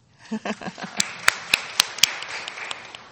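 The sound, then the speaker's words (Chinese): A short burst of hand clapping from an audience, about a dozen quick claps in a steady rhythm, the sharpest ones in the middle before trailing off into lighter, scattered claps. No one speaks. “标准，我们拍手吧。”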